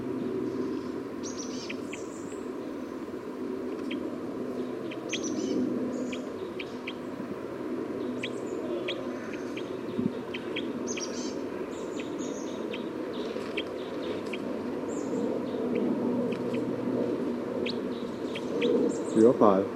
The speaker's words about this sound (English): Recording bird 305 again.